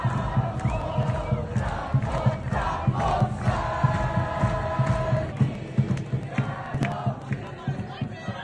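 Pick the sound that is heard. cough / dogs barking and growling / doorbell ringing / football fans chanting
football fans chanting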